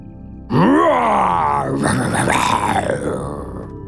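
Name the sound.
lion roaring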